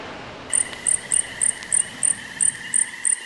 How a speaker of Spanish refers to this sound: Tampoco voy a poder dormir esta noche. Ese grillo me está volviendo loco.